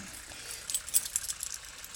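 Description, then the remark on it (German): A few light metallic jingles and clinks as a small key that fits a toy made by the firm Kopperschmidt is handled, faint, scattered through a quiet moment with no talking. “Um genau zu sein, ein Spielzeug, zu dem dieser Schlüssel hier passt.”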